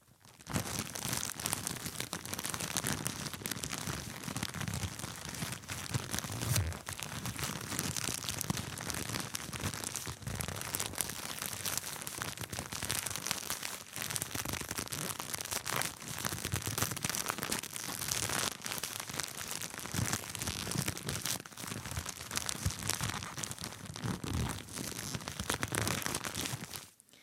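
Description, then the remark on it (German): Continuous crinkling and rustling of a plastic bag packed with cotton pads, steady, with dense crackly texture throughout and no speech. “Das war das Knistern von Wattepads in einer Tüte, beziehungsweise die Wattepad-Tüte.”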